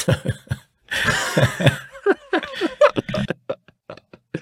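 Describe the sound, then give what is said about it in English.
A harsh cough bursts out after a few short sputters, followed by a string of rough, throaty bursts and breaths that sound like a fit of coughing trailing off. “I'm coughing again. There's the evidence of that.”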